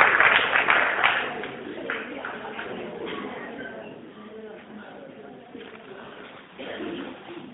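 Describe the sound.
A group claps for a student, loudest at the start and then thinning out, with scattered voices murmuring in the room as the applause fades.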